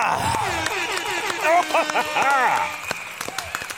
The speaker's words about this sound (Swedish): Och som vanligt, en applåd och tuta på det!